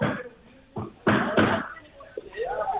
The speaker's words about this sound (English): Andere team is nog volop aan het klussen, aan het schuren, aan het zagen, aan het timmeren.